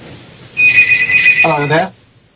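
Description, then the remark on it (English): A telephone rings once with a steady, bright electronic tone that lasts just over a second. It is fairly loud, with a brief lower warble joining it near the end. “You might want to take any phones you have there off the hook, mate.”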